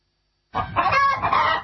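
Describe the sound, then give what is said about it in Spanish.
A chicken clucks loudly after a short silence, a run of squawky, uneven clucks lasting about a second with no talking. “Cualquiera podría venderte la gallina de los huevos de oro.”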